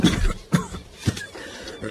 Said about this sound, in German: Schon wieder wird krampfhaft gehustet.